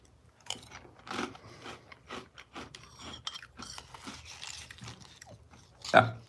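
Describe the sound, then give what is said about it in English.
Crunching and chewing of crisp Cinefuego Toast Crunch cinnamon cereal, with irregular bursts of munching and a louder crunch near the end, heard without anyone talking. “Let's try it. This is Cinefuego Toast Crunch cereal.”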